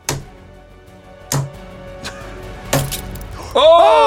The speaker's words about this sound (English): Wow. It's done. The mini mirror is smashed to bits. That one properly exploded. Okay. The mirror is completely broken.